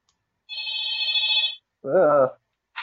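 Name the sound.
wall telephone ringing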